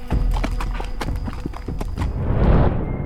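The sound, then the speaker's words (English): A horse's hooves clip-clop in a steady walking rhythm as it is led away after hobbles are removed from its fetlocks, fairly loud at first, with a broad rustling swell near the end as the footfalls continue. “Removing the hobbles from the horse's fetlocks, he led the obedient animal away.”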